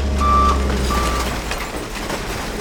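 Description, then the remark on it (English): A garbage truck's reversing alarm sounds two clear, steady beeps over a low, rumbling diesel engine on the tipping floor of a Rhode Island recycling facility, where trucks tip out recyclables to be sorted; industrial noise continues after the beeps stop. “stands on the tipping floor where garbage trucks from cities and towns across Rhode Island literally tip their recyclables out to be sorted.”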